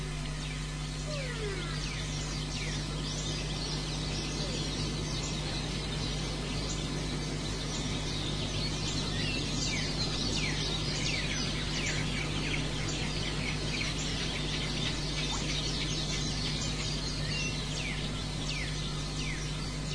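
A dense chorus of small birds chirps and tweets continuously, many overlapping calls over a steady low hum and no talking.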